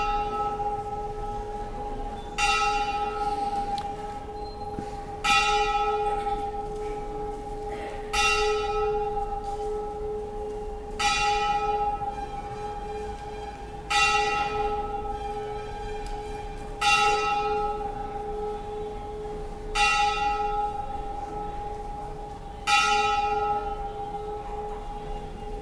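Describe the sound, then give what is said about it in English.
A large temple bell rings out in slow, regular strokes about every three seconds, each bright clang blooming and lingering over a steady low hum, with no voices present. “Such a beautiful bell.”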